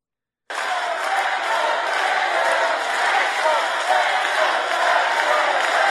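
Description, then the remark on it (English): A crowd at a church event, riled up by Mark Burns, cheers and chants "Let's go, Brandon" together, a dense, steady roar of many voices that bursts in after a brief silence and holds at full loudness until the end. “This is how he chooses to rile up the crowd at this church.”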